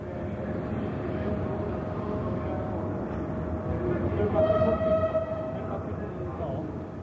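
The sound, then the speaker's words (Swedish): Trains rumbling steadily through Stazione Termini, the central railway station in Rome, Italy, with a sustained whining tone throughout and a brighter squealing, horn-like sound swelling midway, over a bed of indistinct voices. “Stazione Termini, centralstationen i Rom, en utsatthetens och armodets kosmopolitiska mötesplats och härberge.”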